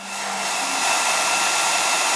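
hair dryer blowing

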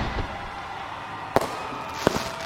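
fireworks exploding

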